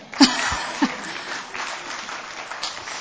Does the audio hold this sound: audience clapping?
yes